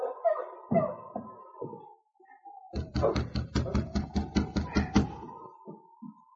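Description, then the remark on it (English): A quick, steady run of about a dozen loud knocks on the wooden door of an isolated cabin. A high, drawn-out whining tone sounds before and through the knocking. “As he waited for the door to open, Jim looked over his shoulder nervously. Then he knocked again.”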